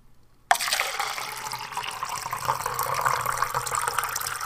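After a brief silence, water suddenly starts pouring from a water cooler, a steady gurgling stream filling a cup that runs on without pause. No one speaks.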